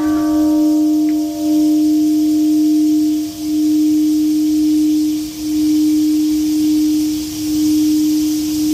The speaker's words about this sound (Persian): زنگ‌ها در شهر هیروشیمای ژاپن روز پنجشنبه به مناسبت 75مین سالگرد انفجار اتمی در این شهر به صدا درآمد.